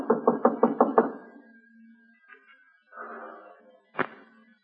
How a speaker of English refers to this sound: Think we ought to go right in? Give him a knock.